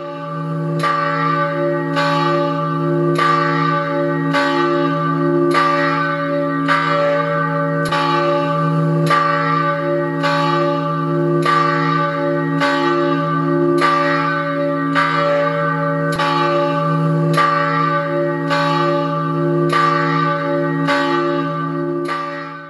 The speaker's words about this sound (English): Let's listen to the ringing of the bell.